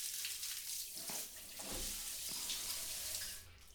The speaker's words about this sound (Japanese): まだ外雨だし。止むまでずっといてあげる。